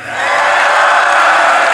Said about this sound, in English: Listen to that roar of the crowd. Far more Chinese students than from any other countries, really actually from all of the other countries combined.